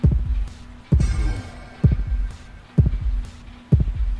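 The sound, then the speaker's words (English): A game's heartbeat sound effect: five deep, steady thumps, each with a soft double pulse, roughly one per second over a low constant hum. No one speaks. “Now, if your heart rate increases, you'll hear a chime and a kind of a gasp that will tell you that your heart rate is decreasing back to normal, and all you have to do is stand still and do nothing, and that will happen.”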